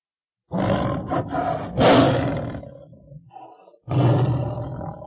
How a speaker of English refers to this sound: It's a tiger. It's big.